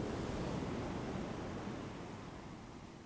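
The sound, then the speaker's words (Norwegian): A steady wash of ocean surf rolls onto the shore, a broad rushing noise that slowly recedes and softens over a few seconds, with no voices present. “Hør lyden av bølgen.”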